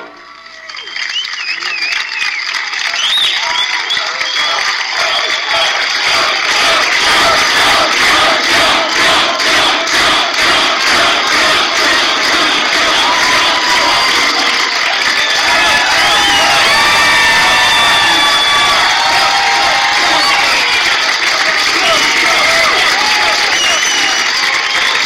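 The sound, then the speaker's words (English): A large crowd in Miami cheers and whoops over sustained, dense clapping as Mike Pence introduces the president, continuing loudly for about twenty-five seconds, with shouted voices rising above the steady roar of applause. “You're going to see Mike Pence is introducing him, and the crowd is going wild, so we'll have to listen to a probably extended applause.”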